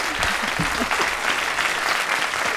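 A burst of audience applause, many hands clapping in a dense, steady patter that stays loud and even throughout, with no talking over it.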